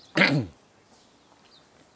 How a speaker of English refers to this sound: And I think you can probably hear a bit of bird song. Certainly kind of crow things. Don't know if they're crows or... Do they have grackles here?